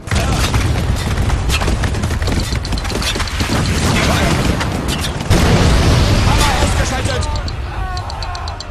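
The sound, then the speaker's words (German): An artillery barrage of white phosphorus shells explodes in loud, overlapping booms and bursts, a dense roaring rumble with sharp crackling pops that barely lets up for the whole stretch. “Das ist weißer Phosphor.”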